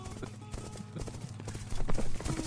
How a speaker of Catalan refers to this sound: Poc esperaven els dos cavallers que aquell galop de cavalls no eren ni de l'exèrcit musulmà ni de l'exèrcit cristià. No eren cavalls. Eren els llops.